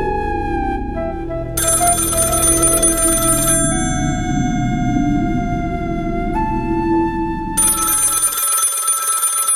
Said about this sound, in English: David's phone rang one Saturday morning several weeks later